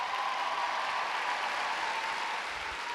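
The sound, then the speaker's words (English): A crowd applauds a poet steadily, a dense, continuous wash of clapping at an even level from start to finish with no voices breaking through. “Applaud the poet.”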